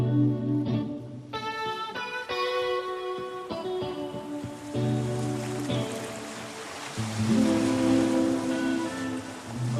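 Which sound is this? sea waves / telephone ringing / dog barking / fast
sea waves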